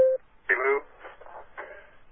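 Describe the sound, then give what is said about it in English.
A short, clear electronic beep sounds once at the very start, the tone the Williams Nikon YB Hurton phone conference line plays when someone joins, followed by people talking over the telephone line. “Somebody else joined us.”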